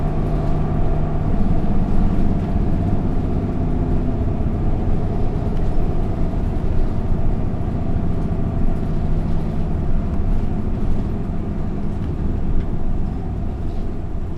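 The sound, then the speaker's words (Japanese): A steady, heavy engine rumble and road drone fill the inside of a bus in Japan, loud and continuous throughout, with no voices, as it rolls toward the next stop, Ichinoe Station. “次止まります。バスが完全に停車するまでこのままお待ちください。”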